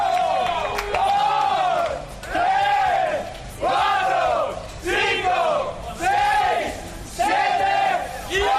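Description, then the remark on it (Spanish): Marc Márquez's team and fan club cheer in celebration of his World Championship, a loud crowd shouting a rhythmic chant over and over, each rising-and-falling cry repeating roughly once a second for about eight rounds. “El sonido de la alegría de Márquez y de su equipo, que sirve la televisión que emite este Mundial, que es DAZN.”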